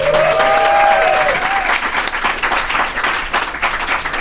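round of applause

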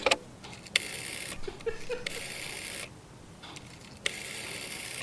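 dialing a telephone number

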